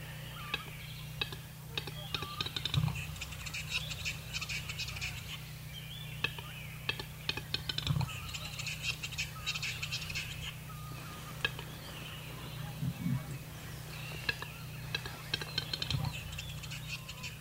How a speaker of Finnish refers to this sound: Ja tämä on sitten isompi kanalintu, niin se on vähän arvokkaampaa, semmoista naksuttelua ja rauhallista.